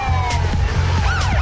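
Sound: police car sirens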